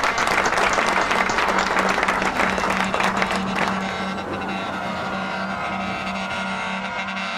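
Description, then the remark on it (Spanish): Loud, dense applause from a crowd fills the first few seconds, then fades into a steadier background wash with a low, continuous hum underneath. “un aplauso hasta el cielo para mi hermano Dani Cotto, que se lo merece”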